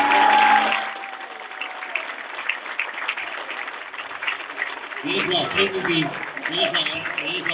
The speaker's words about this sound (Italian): Prenditi l'applauso, una piazza azzurri,